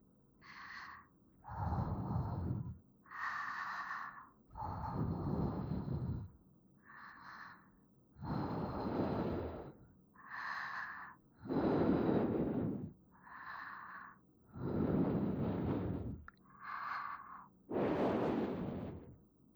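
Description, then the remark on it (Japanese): Slow, repeated breaths blown into the ear to warm it, about a dozen soft airy puffs, each with a deep rushing low rumble, alternating with lighter hissy intakes in a steady rhythm, with no talking. “まずは吐息でお耳を温めて”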